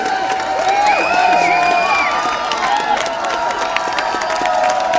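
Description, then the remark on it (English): A large crowd of campaigners holding banners to save their local cinema, waiting for news, cheers loudly and steadily for several seconds, a dense roar of many voices with scattered shouts and whoops rising above it, no single speaker distinguishable. “There's a cheer, but why?”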